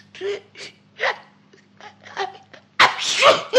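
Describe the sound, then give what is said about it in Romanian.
Several short, breathy gasping catches build up one after another, then a loud, explosive sneeze bursts out near the end and trails off. “M-a lovit strănutul.”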